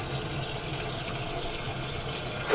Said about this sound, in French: Et donc là, vous voyez que notre cuvette se remplit, enfin notre réservoir de chasse d'eau se remplit.